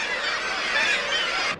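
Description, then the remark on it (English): A bird calls loudly and steadily for a second and a half, a harsh, dense, honking-like cry that fills the moment without pause. No one speaks. “The sound of the bird.”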